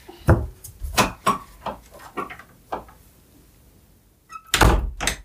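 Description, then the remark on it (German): A door is handled and pulled shut: a series of wooden knocks and clunks, a pause, then a louder close with a solid thud and rattle. No one speaks. “Wenn du die Tür wieder zumachen könntest, wäre das großartig.”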